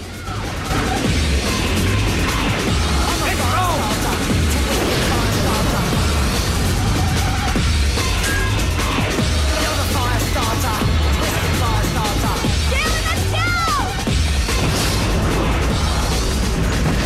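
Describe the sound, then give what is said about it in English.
A loud, dense roar of explosions and crackling fire, with heavy booms and crashes piling up continuously over about seventeen seconds amid a busy, chaotic action soundscape; fuel sprayed from a hose is lit with a lighter, the ground catches fire at the docks, and an explosion follows. “As Alex and Natalie run off, Dylan's clawed by an explosion.”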